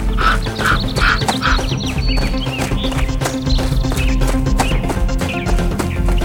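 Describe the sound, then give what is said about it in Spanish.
Crows caw in a quick series of harsh calls near the start, set against a busy, loud musical backdrop with rhythmic clopping that continues throughout. “Los lobos acababan de irse cuando el cielo se oscureció y muchos cuervos comenzaron a bajar a picotearlos a todos.”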